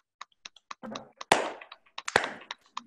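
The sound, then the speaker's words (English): A child claps her hands in a quick, uneven string of sharp, light smacks, with two louder, fuller claps standing out among the softer taps. No voices are heard. “She's clapping her hands.”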